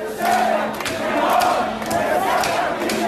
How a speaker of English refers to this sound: The images shocked many people around the world, and they set off days of protests in Beirut. This past weekend, tens of thousands of protesters took to the streets.